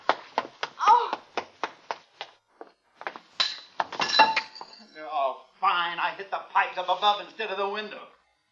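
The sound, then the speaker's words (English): A metal tool clanks against overhead pipes about a dozen times in quick, uneven strikes, sharp and ringing, before people begin talking over a few final knocks. “Fine, I hit the pipes up above instead of the window.”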